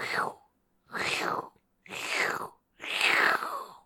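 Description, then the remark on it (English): A voice imitates the Pokémon move Leaf Blade as heard in the Gen 3 GBA games, with four breathy, hissing bursts, each about half a second long and evenly spaced, some with a falling sweep, fairly loud. “There's some real crunchy leaf sounds going on.”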